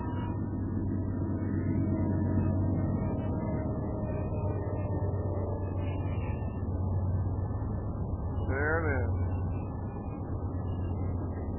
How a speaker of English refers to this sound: Starting to hear the Doppler shift as the engine moves away, but you still hear the clatter of all the wheels. It'll take some time for it to pass.